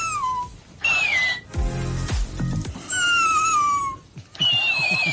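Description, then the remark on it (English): A husky's drawn-out, whiny growls alternate with high-pitched, sped-up echoes of the same sounds from a little bouncing hamster repeat-back toy, going back and forth several times. “So the dog is growling at him and then every time the dog growls, the hamster growls back.”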